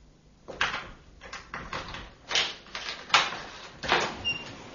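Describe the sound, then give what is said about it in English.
The door to Madame L'Espanier's room is unlocked with a key and opened: a string of about seven scraping, rattling clicks from key and latch, fairly quiet and uneven, ending as the door swings open. No one speaks. “We'll have to break down the door. We'll do no such thing. I have a key.”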